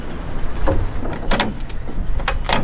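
Metal clunks and latch clacks ring out as a woman unlatches and pulls open the large cargo doors of a truck to check the load, several sharp knocks over a low, steady engine-like rumble.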